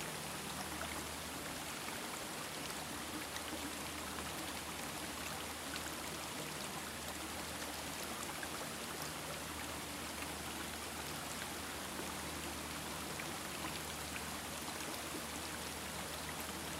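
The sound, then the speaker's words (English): Steady, continuous rush of water from a waterfall flowing into a bigger body of water, a dense, even hiss with no breaks, fairly soft and with no voices. “Now begin to move into the bigger body of water the waterfall is flowing into.”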